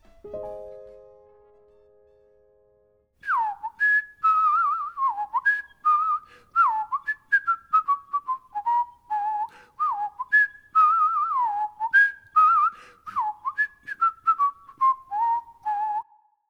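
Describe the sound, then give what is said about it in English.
A single whistler carries a lively, wavering melody alone, with quick sliding notes and short phrases in a steady rhythm, after a brief low tone fades at the start. “Instrument by itself, starting with a whistle.”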